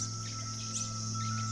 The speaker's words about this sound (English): Other males join in. Soon, a chorus fills the forest. We don't tend to think of hummingbirds as songbirds. They seem to simply squeak.